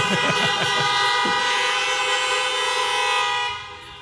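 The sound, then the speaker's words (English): A train horn sounds one long, loud, steady blast lasting several seconds before tapering off at the end, with a faint voice briefly audible underneath at the start. “You missed a good opportunity to honk your horn right there.”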